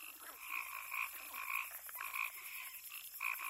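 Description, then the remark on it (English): Common wetland frogs croak in a rapid series of raspy, pulsing bursts that repeat about every half second, set against a steady high-pitched buzzing chorus in the background. “However, since you will probably not hear them all on this visit, we've compiled sounds of common wetland birds, insects, frogs, and a reptile.”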